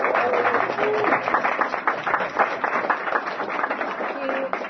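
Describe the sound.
A roomful of people clapping steadily, a dense, continuous patter of many hands that stays fairly loud for the whole stretch, with a few faint voices or cheers mixed in.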